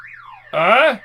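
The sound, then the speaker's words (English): A car alarm goes off on a car that needs fixing: a thin tone slides up and down, then a loud, buzzy wail swoops up and back down before cutting off about a second in. “You pull the pillow over your head in an attempt to dampen the sound. When will I fix that shitty car?”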